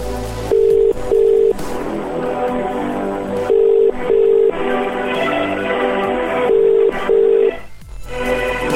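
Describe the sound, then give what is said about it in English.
A telephone ringback tone from a call placed by Scratch Radio to a competition winner sounds in three double bursts, each pair of steady mid-pitched beeps repeating about every three seconds over a busy background of noise. “It's ringing.”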